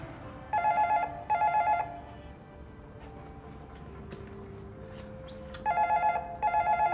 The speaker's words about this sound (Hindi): किसने घंटी बजाई थी?